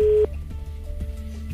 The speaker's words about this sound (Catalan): Estem trucant un telèfon a l'atzar.